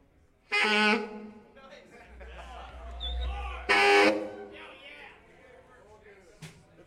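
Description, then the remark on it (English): A voice imitates a ship's foghorn with two loud, blaring, buzzy blasts a few seconds apart, separated by a low rumbling hum and quieter vocal noise. “Foghorn, you know, we bring it with us everywhere we go, you know, from the ships in the middle of the night.”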